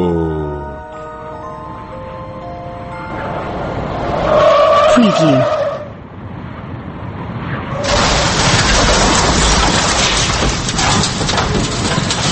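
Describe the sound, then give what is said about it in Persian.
A speeding car's engine revs and speeds up, then its tires let out a sharp, sustained screech as it skids, followed by a loud, rough roar of noise that continues to the end. “بله ایران داشت با همین سرعت ساخته میشد، دقیقا با همین سرعت که شنیدید این ماشین رفت، یعنی پاشو گذاشته بود رو گاز داشت میرفت، اونم با چه سرعتی”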